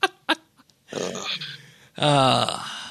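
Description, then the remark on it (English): Beagles bark at something outside: two quick sharp barks, then a rough growling stretch and a loud, drawn-out howling bay at the end, with no one talking. “They are loving dogs, though.”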